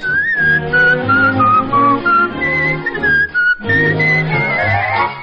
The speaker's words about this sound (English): If you toot a tiny whistle, it'll make a little tune.